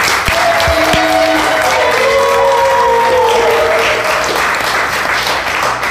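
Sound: group applause and cheering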